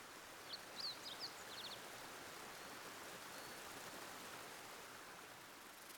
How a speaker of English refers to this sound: Bright sunlight reflects off of a babbling brook lined with moss-covered rocks.